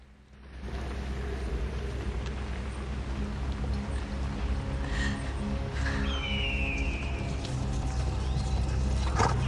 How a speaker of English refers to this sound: In a field, Beric and his team stop their horses